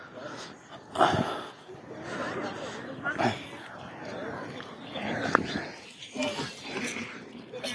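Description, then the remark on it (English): A dog out on a walk with children, its sharp yelps or barks popping up a few times amid steady chatter and movement, with young voices talking throughout. “Anyway, some kids walking the dog.”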